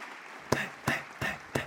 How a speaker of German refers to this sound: Ja, das war der Applaus, der jetzt kommen sollte, aber egal.